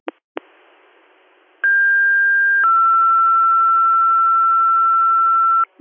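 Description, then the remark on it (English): Radio-style fire pager alert tones, a dispatcher's retone for Hammond Support: a click and burst of static, then a steady high tone for about a second that drops to a lower sustained tone lasting several seconds, loud over a hiss, ending in a click. “I received Hammond Support, you're acknowledging, and I'm just getting ready to retone.”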